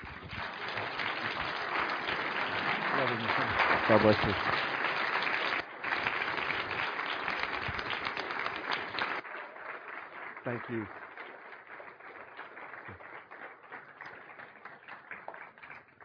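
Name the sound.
audience applause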